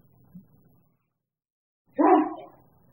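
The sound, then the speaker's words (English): A single short, loud sneeze bursts out after a stretch of near silence, with a faint low rumble before it and a brief trailing fade. “Bless you.”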